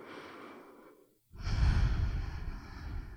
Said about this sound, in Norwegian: Ok, så tar du lukk igjen munnen, og så tar du et dypt inndrag med nesa, og så skal du også puste ut med nesa, så munnen skal være igjen.